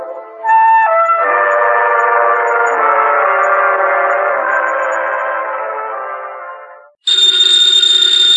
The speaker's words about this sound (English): Ladies and gentlemen, the ringing of that phone bell brings you mystery, adventure.